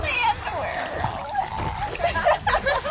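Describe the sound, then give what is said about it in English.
Water splashes and sloshes as someone jumps in, with a burst of splashing near the end and voices chattering in the background. “Meantime, someone else jumps into the water.”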